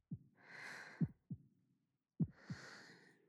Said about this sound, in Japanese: 右耳から聞こえる？ドクン、ドクンって静かな心臓の音が鳴ったる。